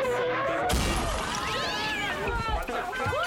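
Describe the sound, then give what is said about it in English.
A taco truck smashes through a wall with a sudden loud crash, then crumbling debris rumbles on while excited voices cry out over the noise. “The lucky taco truck just crashed through the flipping wall.”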